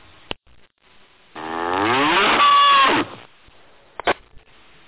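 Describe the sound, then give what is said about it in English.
A single drawn-out cow moo sound effect, loud, with a buzzy, rising-then-falling tone lasting about two seconds, played at the close of an amateur radio net; short clicks come just before and after it, with no talking. “cue the cow.”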